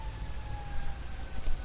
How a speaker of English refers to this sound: Sirens in the background. Isn't that fun?